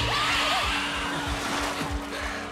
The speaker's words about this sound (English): Do you know what that sound is, Highness? Those are the shrieking eels. If you don't believe me, just wait. They always grow louder when they're about to feed on human flesh.